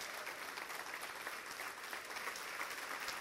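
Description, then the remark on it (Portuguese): An audience applauds the Lord steadily, a dense, continuous patter of many hands clapping at an even level throughout, with no speech standing out over it. “Aplaudam o Senhor, irmãos.”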